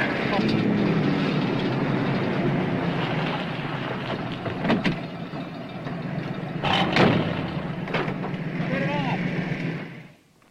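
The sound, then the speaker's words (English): A steady, loud car engine drone runs throughout as the car is driven, broken by a few sharp clanks and bursts, with a thin wavering squeal near the end from a failing fan belt, before it cuts off. “God damn, it's a fan belt.”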